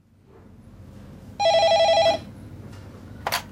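A telephone at the HealthLink phone line rings once with a rapid warbling trill lasting under a second, loud, over a quiet hum, followed by a brief click.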